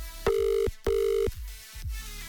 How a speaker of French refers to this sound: Quatrième sonnerie.